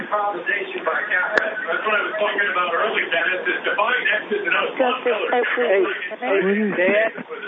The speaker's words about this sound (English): Could somebody take their TV off, please?